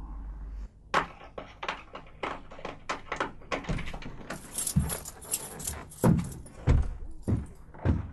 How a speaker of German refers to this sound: Gerade erst ging die Sonne auf und schon hörte man eilige Schritte.